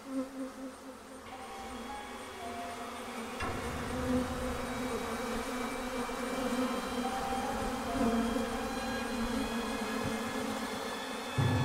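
A dense swarm of bees drones continuously in a dark, windowless room of an office, covering its walls and ceiling; many overlapping buzzes form a thick, wavering hum that swells slightly and stays steady throughout, with no voices.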